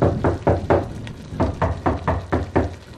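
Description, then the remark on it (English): Firm knocking on a wooden door, three quick raps followed by a brief pause and then a steadier run of about six more, fairly loud with no voices. “Penlocks, whoever knocks.”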